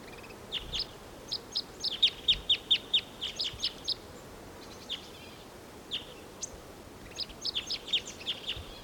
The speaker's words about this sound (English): There's a singing male in the distant tall ponderosa pine. Here he comes. He's flying in. Song flight. Wild bird.